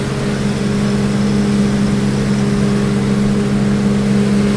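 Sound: engine running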